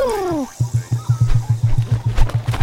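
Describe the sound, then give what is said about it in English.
A female emu calling: a brief descending whistle-like sweep gives way to a steady series of about a dozen low, resonant booming thumps in a quick, even rhythm, with no talking. “That's an emu, only the second largest living bird by height.”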